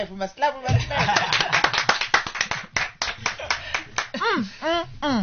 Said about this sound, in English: we must clap. That's how we open the show.